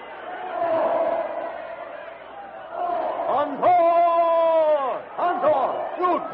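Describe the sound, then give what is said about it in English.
A panicked crowd screams and shouts as charging elephants lunge through it, many voices clamoring loudly, with sharp, sustained shrieks rising above the chaotic din midway before breaking into scattered cries as the crowd flees in every direction. “Followed by the other elephants who have tossed their riders aside, the jungle titan lunges through the screaming, panic-stricken crowd straight toward the ape man.”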